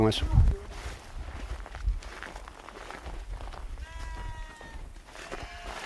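Goats bleat a few times, wavering cries rising over a rustling outdoor background with a heavy thump or footstep near the start; the goats are kept with a horse and bees among fruit trees, including guava trees.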